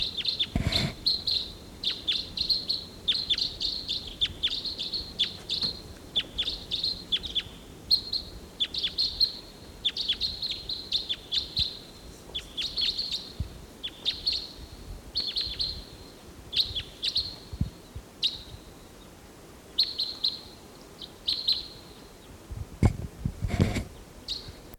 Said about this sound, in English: Lone bird flying over.